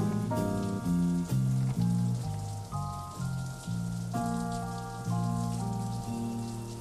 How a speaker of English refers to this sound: Listen to the rain.